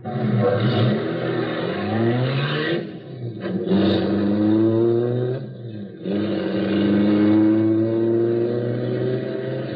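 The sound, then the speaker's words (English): A getaway car's engine revs hard and accelerates, its pitch climbing through several gear changes as it speeds away, loud, with no voices. “Oh, here comes the car. All right, get him in the car, quick. Okay, step on it.”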